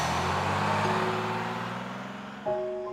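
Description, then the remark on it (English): A bus's engine drones steadily, its low hum easing down as it slows, then shifts abruptly near the end as it pulls up to a bus stop in South Park at night. No voices are heard. “A bus pulls up to a South Park bus stop.”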